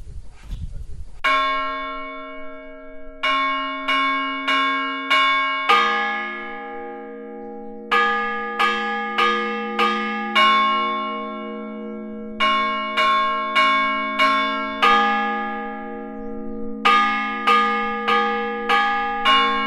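Church bells ring the sometent alarm toll of Capsec, in the Vall de Bianya, loud, with rapid clusters of resonant strikes and long, shimmering decays layering over one another.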